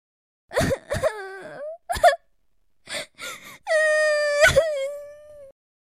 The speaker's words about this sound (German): Sie fing an zu weinen.